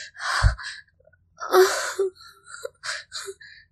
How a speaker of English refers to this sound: Breathe, baby. Breathe, darling. There are little quick gasps through your nose.